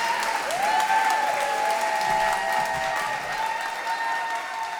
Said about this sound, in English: Are you ready? Give him a big cheer!